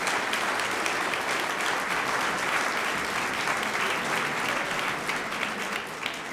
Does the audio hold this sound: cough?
no